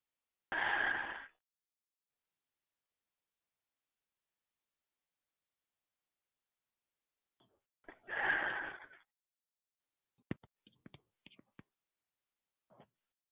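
Two long, deep breaths, broad and airy, breathing fully in and only partly out, separated by several seconds of silence, followed by a few faint clicks and small mouth or body noises. Fairly quiet, no talking.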